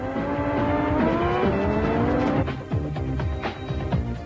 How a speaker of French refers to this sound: Aucun doute, F1 Pole Position est une des courses de voitures les plus réalistes jamais réalisées sur Super Nintendo, ce qui explique son excellente note, 18 sur 20.